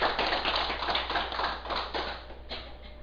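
Steady applause from an audience at the start of a Buddhist dharma talk on 26 May 2008: a dense wash of many hands clapping at once, sustained for a few seconds and tapering slightly toward the end.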